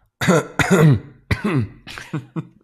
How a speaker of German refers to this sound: Bisschen durch die Kneipen ziehen, bisschen extra husten. Ich kriege bei dem Gedanken Husten.